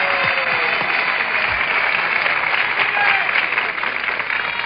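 A studio audience applauds steadily for a guest's birthday, a dense wash of many hands clapping at once that holds at an even, fairly loud level throughout, with no one speaking over it.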